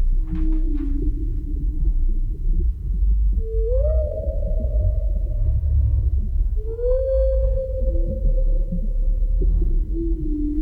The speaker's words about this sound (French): Quelques chants de baleines qui ont été enregistrés du côté de l'île de la Réunion.